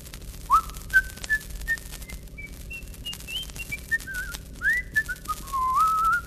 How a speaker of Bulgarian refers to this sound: Винаги, когато нещата не вървят на добре, си подсвирква.